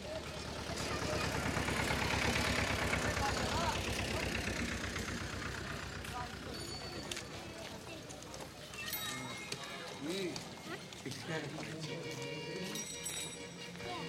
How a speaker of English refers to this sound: A heavy black car blasts exhaust fumes over man and animals. A flag flutters stiffly on the hood, probably a local government official returning to his bungalow and servants.